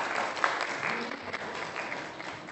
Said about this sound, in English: Give them a clap. Well done.